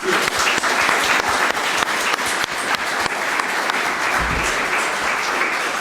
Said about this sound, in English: This is basically the Chaos Computer Club's video crew. They have been helping us from, I think, almost the beginning, if not the beginning, and a big round of applause for them.